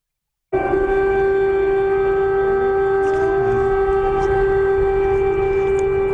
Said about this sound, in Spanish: ¿Lo recuerdas? Es el sonido de las sirenas de aquella madrugada del 24 de febrero en que estos sonidos, las explosiones, no solamente sobrecogieron a esa zona de Ucrania, fundamentalmente estamos hablando de esas sirenas en Kiev, sino también